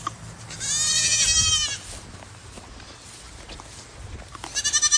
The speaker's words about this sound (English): We have goats in the back now as well, and you can feed the goats, and just a real family-friendly place.